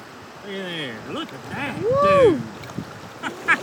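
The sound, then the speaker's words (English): Steady rushing water of a swift-flowing river runs beneath a voice making drawn-out, rising and falling vocal sounds, with a few faint splashes near the end, as a hooked fish is fought in the swift water. “Keep the pressure on him in this swift water.”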